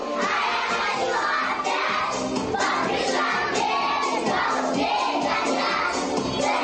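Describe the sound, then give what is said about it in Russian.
About 30 children from the senior group sing loudly together during a music and dance lesson at a kindergarten in Atimar settlement, Lembersky district, Mordovia. Their voices overlap in a boisterous, unruly chorus that fills the whole stretch without a pause. “Почти 30 ребятишек из старшей группы горланят кто во что гораст, но понять, что они поют, все-таки можно.”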